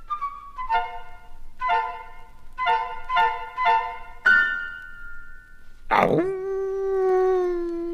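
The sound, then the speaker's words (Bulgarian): A wolf roars and howls suddenly at the young goats' little house to frighten them. It gives a run of short, tonal yelping cries, then a loud sudden outburst that settles into a long, sustained howl. No one speaks. “Ще се приближа тихо до къщичката и изведнъж ще изрева.”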